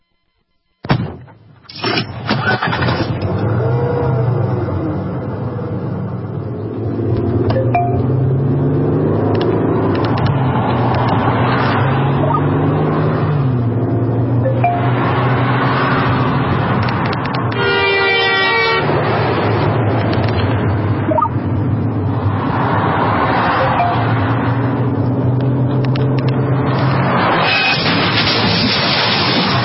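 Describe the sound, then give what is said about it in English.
A car driven by someone who has taken their eyes off the road, with loud, drawn-out horn blasts sounding again and again over engine and road noise, interrupted partway through by a sharp crashing burst, with no one talking. “These are the sounds of someone taking their eyes off the road.”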